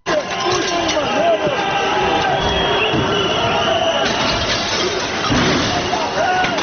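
Several thousand protesters clash with police in central Skopje while trying to break through the police cordon at the parliament: a loud, dense roar of shouting crowd with scattered rising cries and sharp thuds, steady chaotic commotion throughout.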